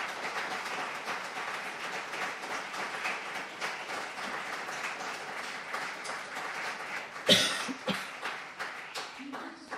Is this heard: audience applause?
yes